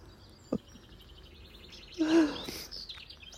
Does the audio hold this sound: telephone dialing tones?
no